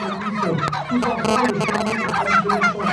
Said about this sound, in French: le troupeau de dindes a commencé son ascension vers le haut du village